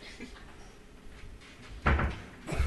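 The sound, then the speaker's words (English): A door swings shut with a solid thud, followed moments later by a second bump as it settles or latches, over a quiet murmur. “Lock that door.”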